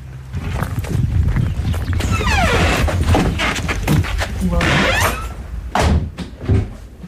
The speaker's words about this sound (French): Ça souffle, c'est parce que nous sommes tout à fait en haut d'une colline